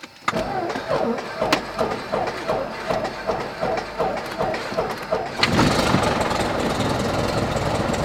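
The engine of a small Cessna 172 propeller plane at an airport cranks over in a steady rhythmic chugging for about five seconds, then catches and bursts into a loud, continuous droning roar that holds to the end.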